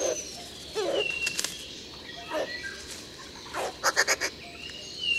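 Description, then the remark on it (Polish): Harsh, raspy croaking calls from an excited cuckoo, scattered at first and then breaking into a quick chuckling run of about four sharp notes, with faint bird whistles in the background. “Osobniki obu płci w ekscytacji mogą natomiast wydawać ostry, skrzeczący rechot.”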